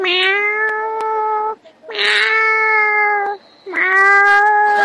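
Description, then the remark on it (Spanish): A person imitates a cat, giving three long, drawn-out meows in a row with short pauses between, loud, with no other talking. “Festival de imitación edición animales.”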